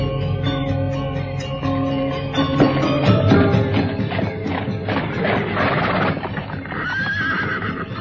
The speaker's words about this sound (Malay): Dan tidak berapa lama kemudian, Senopati Panengger telah kembali dengan membawa sebuah kereta yang ditarik oleh dua ekor kuda.